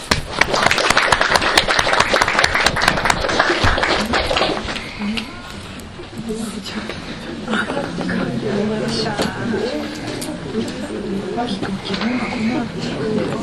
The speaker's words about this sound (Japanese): それでは17年度選出委員会の報告につき基づきまして、新役員を承認いただけますでしょうか。ご承認いただける場合は拍手を持ってお願いいたします。